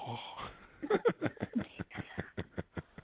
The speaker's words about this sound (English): No, we're not having breathing exercises on the phone, people. I'm like, what the fuck they doing? They trying to expand their diaphragms and shit.